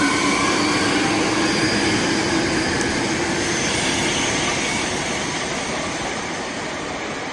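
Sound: metro train running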